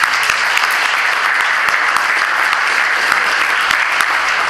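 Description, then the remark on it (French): A crowd applauds the senator-mayor, president of the PNR, steadily, a dense, even wash of many hands clapping at once, loud and sustained for several seconds with no voices standing out. “On peut applaudir le sénateur maire et pour tout ce qu'il fera demain pour ce PNR.”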